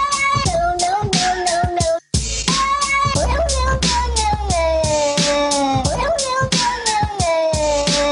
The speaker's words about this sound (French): un remix hip-hop de Miaulement de Chat